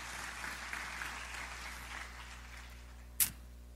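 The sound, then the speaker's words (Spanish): An audience gives applause to the Lord together, a dense, steady wash of clapping that gradually thins and fades, followed by one sharp, loud clack near the end. “Vamos a dar un aplauso al Señor en este momento.”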